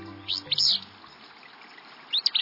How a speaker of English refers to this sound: We're walking along a stream, and we hear what sounds like a sneeze in a dense thicket. Should we reach for binoculars? Or maybe a handkerchief? This sneezy song belongs to a willow flycatcher, a small gray-green bird singing from atop a nearby shrub